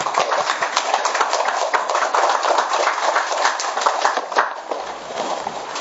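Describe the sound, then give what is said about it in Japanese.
Sustained applause from a church audience welcoming a pastor to preach, a dense, steady wash of many hands clapping at even loudness for several seconds before thinning slightly at the end. No one speaks over it. “では主に、期待を持って拍手を持ってお迎えいたしましょう。”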